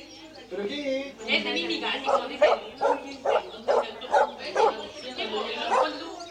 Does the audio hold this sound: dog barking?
yes